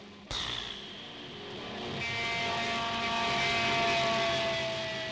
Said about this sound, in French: Quand tu sautes pour la première fois, c'est vraiment incroyable. L'avion fait... T'es là, devant la porte, et tout d'un coup, vlan.